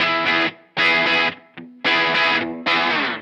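Loud distorted electric guitar with a bright, biting bridge-pickup tone, playing four heavy chord blasts, each ringing briefly before a short gap, with no voices.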